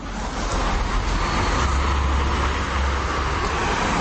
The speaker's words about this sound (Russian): Что такое шумовой дискомфорт, большинство москвичей знают не понаслышке. Переполненные автомагистрали, многочисленные стройки и прочий городской шум отравляют жизнь жителям мегаполиса круглосуточно.